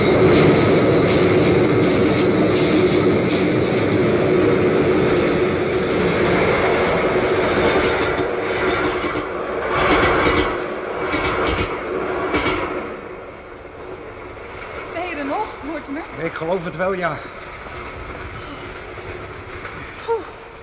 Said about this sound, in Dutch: Onder een brug hangen terwijl er een trein boven je hoofd voorbij davert en de Theems onder je kabbelt.